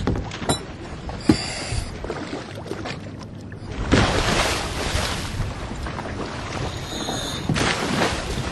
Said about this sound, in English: It's no problem. But we go slowly. The way I would describe this boat is very, very rickety. And very overcrowded.